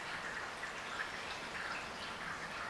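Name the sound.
rain falling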